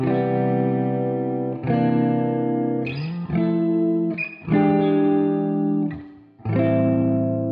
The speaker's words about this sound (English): … reverb-soaked vocals floating above a single electric guitar playing rich, beautiful seventh chords